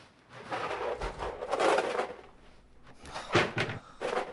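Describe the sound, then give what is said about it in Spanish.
Several wooden cupboard doors bang open and shut in an uneven sequence as a man searches through the cupboards, with rustling and clattering between them and a couple of sharper knocks near the end. No one speaks. “Él busca por los armarios y ella devuelve la leche a la nevera.”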